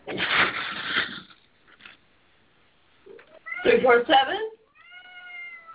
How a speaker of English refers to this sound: Yes, it sounds like you're strangling cats back there. Is everything okay?